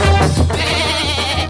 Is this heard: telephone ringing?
no